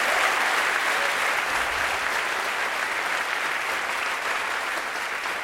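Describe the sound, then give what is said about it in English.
A large audience claps steadily for several seconds, a dense, continuous wash of applause that stays loud throughout and fades only slightly at the end, with no voices over it. “Thanks for that wonderful applause.”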